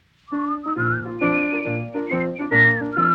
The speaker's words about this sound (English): Maybe they'll whistle and you will hear.